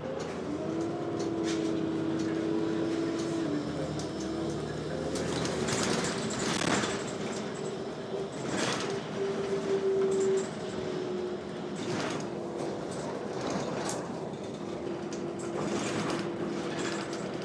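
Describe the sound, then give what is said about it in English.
Steady engine drone and road rumble from inside a moving bus, with a rising and falling motor whine, occasional rattles and clunks, and no one talking. “bus ride.”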